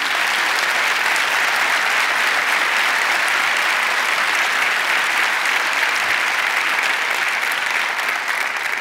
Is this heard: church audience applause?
yes